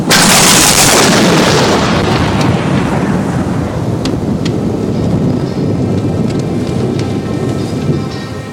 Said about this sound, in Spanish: Trueno, no, yo ya no puedo más. No. Estoy súper nerviosa de tanto trueno. Me asusto cada vez, niño.